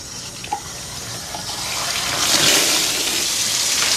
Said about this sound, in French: Elle remplit 2 bidons d'eau. Le débit est fort, il l'éclabousse. Elle est trempée.